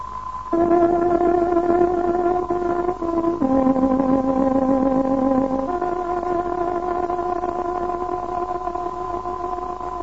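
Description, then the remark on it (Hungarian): A tárogató sounds the 20:00 time signal on Radio Free Europe's Voice of Free Hungary shortwave broadcast: a short melody of long, sustained reedy notes stepping between pitches, the final note held for several seconds, played loudly with no voices. “Kedves hallgatóink, fontos időjelzést adunk. Tárogatónk 20 órát jelent.”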